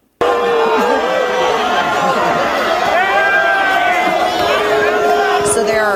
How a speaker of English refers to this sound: This was New York PD. Officers getting booed and hitting with snowballs yesterday in Washington Square Park. Listen to this.